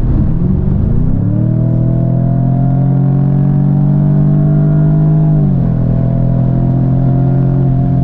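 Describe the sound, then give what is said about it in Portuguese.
A car in dynamic driving mode accelerates, its engine revving up steadily, the harmonic drone rising in pitch over a second and holding strong, then dipping briefly at a gear shift before pulling again. Loud and continuous, no talking. “É um carro que acelera legal, mas não dá aquela emoção, não gruda o corpo contra o banco na hora de acelerar.”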